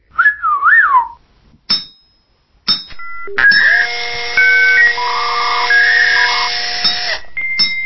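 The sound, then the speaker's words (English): The robot droid Argo-D2 chatters in electronic bleeps and whistles: a warbling whistle, then sharp beeps and a long, bright, buzzing run of tones that shift in pitch, loud, with no voices. “It means that Argo-D2 doesn't need to speak in bleeps and whistles.”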